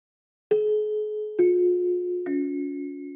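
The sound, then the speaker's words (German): A school gong sounds three ringing chime tones in a descending sequence, each struck about a second apart and left to sustain and overlap, clear with no voices, marking the long break after a double lesson. “Als es nach der Doppelstunde zur großen Pause gongt, hat es zwar aufgehört zu regnen, aber die Bänke auf dem Schulhof sind trotzdem viel zu nass, um sich hinzusetzen.”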